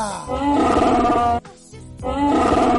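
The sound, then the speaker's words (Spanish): A Wookiee roar sound effect standing in for the character Chewbacca: two loud, growling, harmonic bellows with a rising, warbling pitch, separated by a short quieter gap, with no talking. “El primer colaborador que, bueno, por ser el primero no es el mejor, pero bueno, el que lleva más tiempo con nosotros es nuestro repartidor de globo preferido, Chewbacca.”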